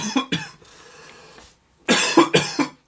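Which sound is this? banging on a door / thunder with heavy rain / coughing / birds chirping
coughing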